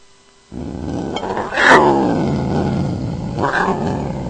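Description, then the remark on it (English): A mountain lion roars loudly, a sustained rasping growl that swells in two surges, with no voices present. “That's a mountain lion.”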